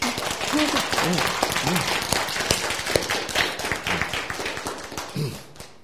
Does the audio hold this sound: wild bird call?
no